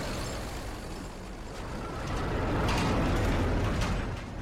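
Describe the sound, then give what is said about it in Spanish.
Heavy military trucks full of Burmese army soldiers rumble, engines growling low and steady, swelling louder toward the end as they roll in and stop in a wide field in front of flooded rice paddies, with clanking mechanical noises and a hiss like air brakes. “Los camiones se detienen en un amplio campo frente a unos arrozales inundados de agua.”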